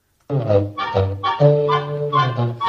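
A cartoon goose, Gus, Donald Duck's cousin in a Disney Donald Duck cartoon, honks loudly in a quick run of five or six nasal, buzzy honks, continuous with short gaps between them.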